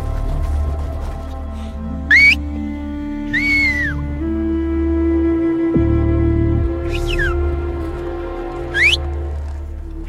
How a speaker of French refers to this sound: Bon, ce que je fais présentement, c'est que je siffle pour prévenir l'ours en quelque sorte que l'on vient. Je pense qu'un bon nombre d'ours ne sont pas agressifs du tout, mais ils n'aiment pas être surpris.